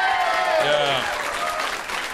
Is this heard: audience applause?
yes